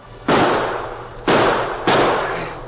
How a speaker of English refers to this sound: The outlaws immediately began shooting at both Dan and his horse as they struggled in the water.